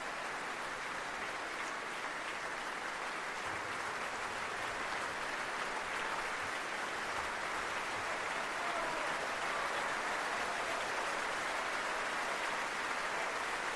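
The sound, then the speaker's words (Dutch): Sustained, dense applause from the audience in the Grote Zaal of the Concertgebouw in Amsterdam for violinist Alena Bajeva after playing with the Düsseldorfer Symphoniker under Alexandre Bloch, a steady wash of many hands clapping at even loudness throughout, with no voices standing out. “Veel applaus en het bijbehorende bloemetje voor Alena Bajeva.”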